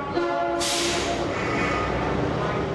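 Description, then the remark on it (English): An off-duty subway train, moved by transit authorities onto a sidetrack, rolls along the track with a loud, steady rumble and a humming mechanical whine, joined by a sudden rush of hissing noise that carries on to the end. “Transit authorities move an off-duty train onto a sidetrack to show us something really dangerous.”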